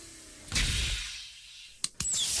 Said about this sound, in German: Ja, du musst nur das Klicken vom Relais abwarten, hör mal. Und wieder auf.